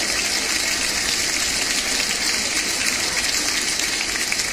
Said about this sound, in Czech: Váš potlesk patří Jiřímu Srncovi.